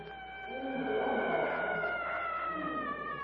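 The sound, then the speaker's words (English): An eerie, wavering war cry in the night rises and holds for several seconds, a sustained wail with ringing overtones that sounds distant and moderately soft, with no talking over it. “From a distance, the weird cry of the yellow men resounds eerily through the night.”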